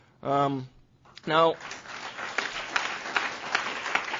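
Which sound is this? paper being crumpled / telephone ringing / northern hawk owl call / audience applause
audience applause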